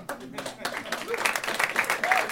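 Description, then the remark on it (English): A short burst of audience applause, dense overlapping claps building slightly in loudness over about two seconds, with voices chattering or whooping underneath. “A Martin Short level of applause for my opening gambit.”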